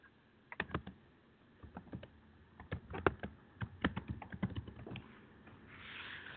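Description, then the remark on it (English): Rapid, uneven clatter of keys on a computer keyboard, fairly loud, with bursts of clicks and short pauses, ending in a soft rustling hiss. “Pound away at the keys.”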